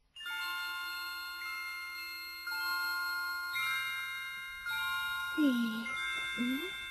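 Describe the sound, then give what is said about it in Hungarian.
Small bells ring out in overlapping, sustained tones, new chimes joining every few seconds and letting the earlier ones hang in the air, with a brief vocal sound near the end. “Hallottátok már a csengettyűimet?”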